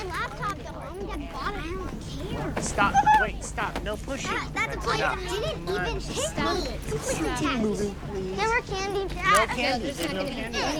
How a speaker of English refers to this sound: As a family with a squabbling son and daughter come on board,